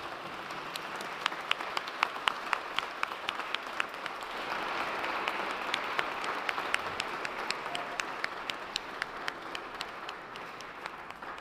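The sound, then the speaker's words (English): A crowd breaks into steady applause for the Bible study leaders and teachers, many hands clapping in a dense, continuous patter that holds for several seconds with sharper individual claps standing out, then gradually thins. “And now you can all give a round of applause, except for children if you're holding something.”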